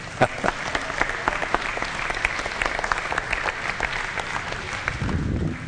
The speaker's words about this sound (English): Hey, clap offering for the Lord.